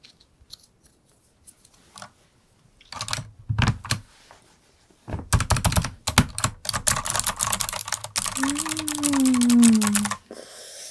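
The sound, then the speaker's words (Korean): Clatter of fingers typing on a computer keyboard, a few scattered keystrokes at first, then a long, dense run of rapid clicks, with a brief low tonal sweep near the end. “뭔가 키보드가 더 잘 눌리는 기분이에요.”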